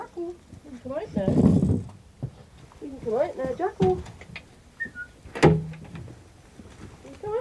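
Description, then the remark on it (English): A small aviary door clicks and swings open with a brief sharp latch sound, surrounded by a person speaking and some faint bird-like chirps. “Just opening the door.”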